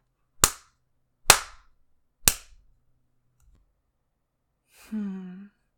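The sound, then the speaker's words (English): Three sharp, loud cracks of a whip made of vines striking skin land about a second apart, each snapping off quickly, followed after a pause by a short, low voiced sigh or moan. “You're much more cute with my whip markings streaked across your skin.”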